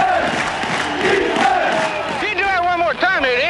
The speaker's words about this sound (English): On a frozen, snowy field. A jam-packed crowd at the Polo Grounds in New York.